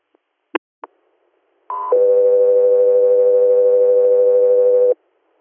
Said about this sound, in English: stand by for tones.